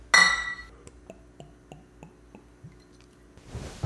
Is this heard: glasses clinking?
yes